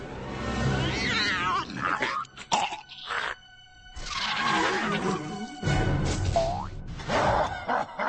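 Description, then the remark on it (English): A young lion cub's weak roar, a string of strained, raspy growls, one rising into a thin squeaky crack before sputtering out, with short gaps between bursts. “Roar, son!”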